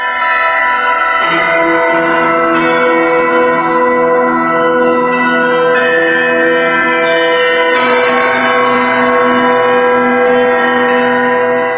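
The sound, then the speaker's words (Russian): Church bells peal loudly and steadily, several bells overlapping, with fresh strikes every couple of seconds over a long, shimmering ring. No voices are heard. “В рубрике «Наши современники» Александр Жихарев, звонарь музея «Коломенское», колокольный мастер, изобретатель.”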